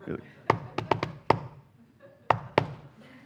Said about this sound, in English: No one comes to the door, we knock again, right?